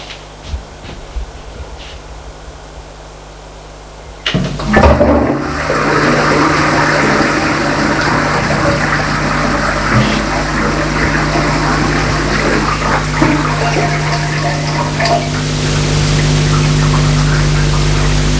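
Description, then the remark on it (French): A toilet is flushed after a few seconds of near silence: a sharp click, then a loud rush of swirling water that keeps roaring steadily to the end. No one speaks. “Une fois que l'homme est fini de vomir, il a fallu s'étirer la chasse d'eau.”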